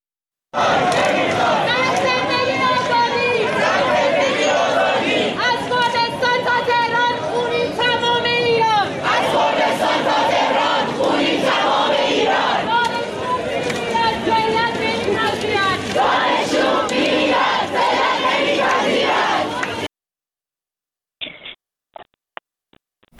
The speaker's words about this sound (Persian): دانشگاه شهید بهشتی دانشجویان به قتل مهسا اعتراض کردند و شعار دادن مرگ بر دیکتاتور، توپ تانک فش فشه، آخوند باید کن بشه و شعارهای دیگر که اگر که امکانش هست صدای اونها رو بشنویم.